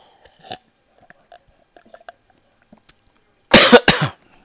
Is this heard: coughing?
yes